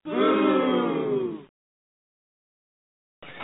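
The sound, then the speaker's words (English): A loud, sustained roar like a cheering stadium crowd, voiced by someone imitating it, lasts about a second and a half, then cuts to silence before another burst begins. “This is what the crowd would sound like.”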